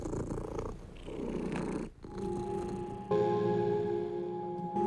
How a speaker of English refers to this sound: And the cat would just, you know, be purring and relaxing.